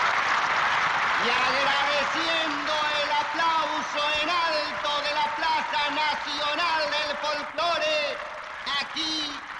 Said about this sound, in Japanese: 聴衆は拍手、司会者はアタワルパショパン機をマエストロと絶賛します。